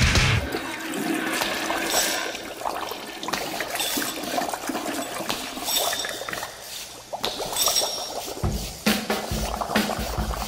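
A toilet flushes, a loud, sustained rush of swirling, gurgling water that churns for about ten seconds, with a fresh surge of draining water near the end.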